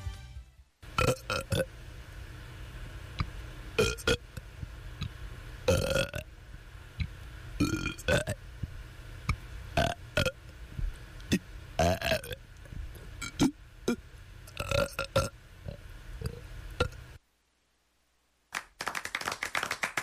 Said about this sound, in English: This is WONY Oneonta here to present the 33rd Best Burp Performance from Otsego County's 19th Biannual Burp Review, 1994.